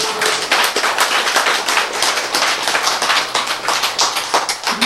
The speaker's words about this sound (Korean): 네, 박수 좀.